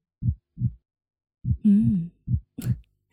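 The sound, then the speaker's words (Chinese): Close, muffled heartbeat thumps come in lub-dub pairs, soft and low, with a brief hummed voice between the beats; the heartbeat of someone holding the listener tightly in their arms, beating right beside the listener's ear. “把小薇紧紧地抱在怀里，听着我的心跳声在小薇的耳边扑通扑通地跳着，是不是很有安全感呢？”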